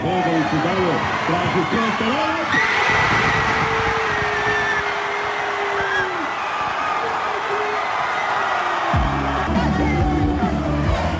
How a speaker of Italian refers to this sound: E stiamo ascoltando i tifosi di Sarajevo esplosi in grida di gioia quando la Bosnia-Herzegovina ha conquistato una vittoria fondamentale per mantenere vivo il sogno di qualificarsi ai mondiali del 2026.